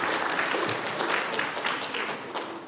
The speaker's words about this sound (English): Okay, big round of applause for all the kids. Well done, guys.